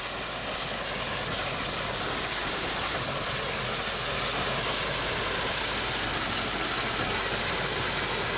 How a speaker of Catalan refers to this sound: Ara anem en marxa. Anem en marxa amb el... Vinga, sí. Vinga. Continuem amb la marxa del tren.